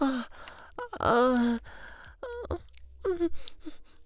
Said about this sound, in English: Mom, I'm just panting so much because I did a bit of a workout. I'm a bit tired and also my stamina, you know, isn't that good.